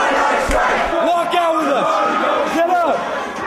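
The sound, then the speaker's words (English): At a protest rally at Bancroft and Telegraph, a large crowd of students shouts and cheers together, many overlapping voices rising and falling in loud, sustained bursts of yelling that fill the whole clip. “After a brief rally at Bancroft and Telegraph, the crowd departed on a five-mile march to Frankagawa Plaza in Oakland.”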